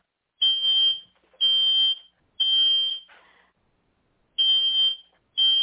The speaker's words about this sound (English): And you guys are going to have to excuse me because I have a fire alarm going off in my house, and I really hope it's not one of my kids being stupid.